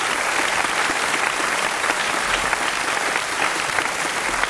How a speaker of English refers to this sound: Once again, a nice round of applause for the great … on piano. … on the vibraphone. … on the contrabass. …, the battery. Saxo tenor, ….